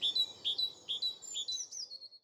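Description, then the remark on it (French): A tit chirps a quick series of high, bright notes in a steady rhythm in a garden. The notes are clear over a soft low background rumble, with no voices. “Ah, ça, c'est une mésange.”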